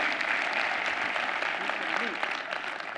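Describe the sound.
An audience claps steadily for about three seconds, a dense, even wash of many hands at a fairly strong, constant level, with a faint voice audible beneath it.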